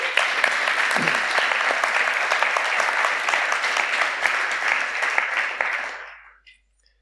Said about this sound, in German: Und die sind ganz spontan eingesprungen. Und da dürfen wir dem mal einen Applaus geben, oder?